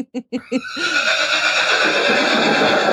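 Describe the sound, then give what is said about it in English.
A horse named Thor neighs loudly: four short snorting bursts, then a long, shrill, quavering whinny that holds steady for a couple of seconds. No one talks. “You should hear Thor.”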